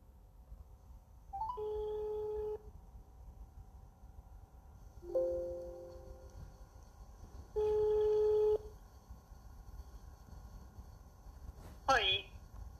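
An outgoing phone call rings: three long, steady, mid-pitched ringback tones, each about a second, separated by pauses over a low background hiss, then a brief sharp sound as the line connects.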